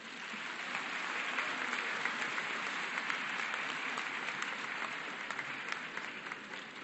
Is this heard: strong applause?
yes